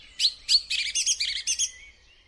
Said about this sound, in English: Song thrushes are in fact great mimics, and you'll often hear songs of other birds in their repertoire, as well as one or two man-made sounds thrown in as well.